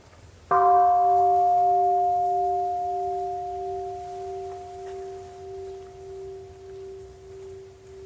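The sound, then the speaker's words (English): A single meditation bell is struck once, then rings out alone for several seconds with a steady mid-pitched hum that slowly fades, its tone gently pulsing as it decays. “Shall we invite the bell and breathe?”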